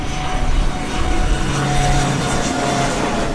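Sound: airplane circling overhead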